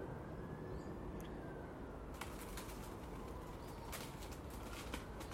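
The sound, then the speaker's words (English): Birds in a garden, with bursts of fluttering wingbeats and faint cooing over a steady outdoor rush of background noise; no one speaks. “I don't know how the birds don't break their wings. They try to fly through trees.”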